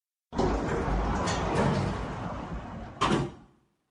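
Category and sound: sound effect, elevator door sliding closed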